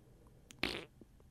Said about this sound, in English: That's one of the things about yoga, you fart a lot. Yeah. Yeah, it's just a thing. You're doing all these weird poses where you put your butt in the air and stuff. I don't know. That's cool. Everybody's like, yeah, yoga makes you fart.